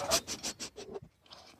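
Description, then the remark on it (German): A dog in a studio pants rapidly and rhythmically right up against the microphone, about half a dozen quick breathy huffs, then a short pause and one fainter breath. “Komm, Hund, jetzt sag nochmal zum Abschluss was in dieses Mikro.”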